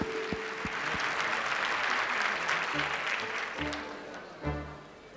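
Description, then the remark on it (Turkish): A crowd applauds for a singer, a steady, dense wash of clapping lasting several seconds before thinning slightly, with faint low sounds and a brief bump near the end. “Alkışlarınız, evet. Büyük bir, alkışlarınız bir.”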